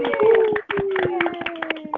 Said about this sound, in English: Everyone, please take yourself off mute. And let's give them a big hand. So let's all just clap and celebrate. Yay! Woo-hoo.